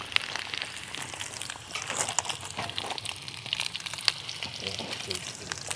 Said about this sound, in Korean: 가스가 떨어졌나? 왜 이러지? 오케이, 가스 다 됐고. 소시지 약불로 구우면서 가스를 갈아줘야 될 것 같아요.